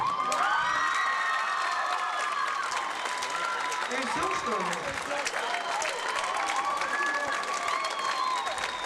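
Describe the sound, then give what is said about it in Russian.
A hall audience of about a thousand to 1,500 people applauds steadily at a Caucasian celebration as the host urges them to clap, a dense continuous wash of clapping with cheering and shouting voices rising over it throughout, loud and unbroken for the whole stretch. “Такой зал сидит, я не знаю, сколько вас здесь. Около тысячи человек, если не 1500. Еще так хлопают.”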